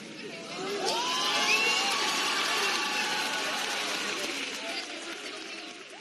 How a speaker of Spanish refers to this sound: Apenas se escucha porque, claro, el público se emociona, hace una gran ovación, empieza a aplaudir, pero dice, ¿quieres casarte conmigo?